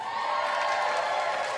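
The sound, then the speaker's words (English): A crowd claps and cheers, a dense, steady wash of hand claps with scattered shouts mixed in, holding at an even level throughout the short burst with no one speaking over it. “If you didn't clap, fuck you, I hope you die.”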